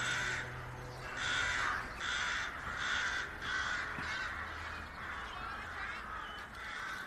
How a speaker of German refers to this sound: denke ich wieder über den grossen Krähenschwarm am Himmel nach. Wie man nicht weiss, was das bedeutet, ist das schon ein bisschen unheimlich.